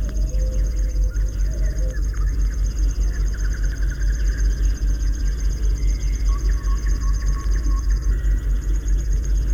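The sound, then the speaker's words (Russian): A river warbler's insect-like trilling song runs steadily throughout, a thin, high, rapid buzzing pulse, set against a heavy low rumble with a few faint other bird notes. “думаете, что это стрекочет кузнечик? Это песни камышовки.”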